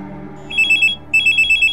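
A telephone bell rings in two short bursts of rapid trilling pulses, clear, with a brief pause between them and no voices.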